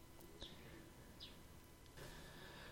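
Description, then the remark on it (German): A few faint, brief bird chirps, the last birds at dusk, sound over a steady low rumble of outdoor background noise, with no voices present. “Es werden noch Vorbereitungen getroffen, die letzten Vögel zwitschern noch.”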